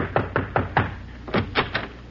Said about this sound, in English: Somebody's pounding on my portal.